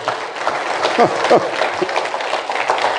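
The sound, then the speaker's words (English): An audience claps steadily, a dense, continuous wash of many hands, with a few voices calling out over the applause. “Somebody clap up in here right now.”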